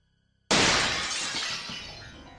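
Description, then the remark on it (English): A window's glass shatters suddenly and loudly after a brief near-silence, a bright crash followed by a couple of seconds of tinkling, scattering shards that slowly fade. No voices. “I don't know how long I was out for, but I woke up to the sound of my window shattering.”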